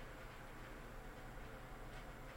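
A kettle with its steam vent lowered so it will whistle, heating up and nearly at the boil, giving a steady, unbroken rumbling hiss with a low churning undertone. It holds at an even, moderate loudness throughout, with no voices.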